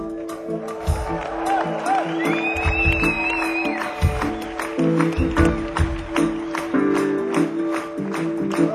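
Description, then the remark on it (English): An audience claps along in a steady rhythm, sharp hand claps repeating throughout over crowd noise, voices and a sustained tonal backing. “And he likes to hear the hands clapping at this point.”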